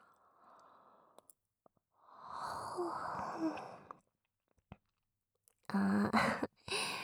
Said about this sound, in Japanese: 同時にあくびした。